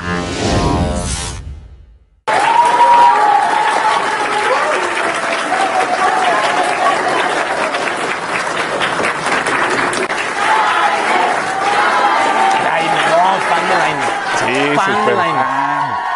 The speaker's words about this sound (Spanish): Vamos a ver los aplausos a los ministros, a ver qué pasa. Bueno, aplausos para el 99% de los ministros que están allá.